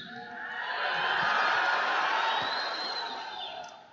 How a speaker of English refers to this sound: Can we have another round of applause for this great president?